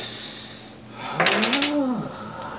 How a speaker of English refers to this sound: Is it like two doors that opened? Or is it like it's a double door? It's a double door.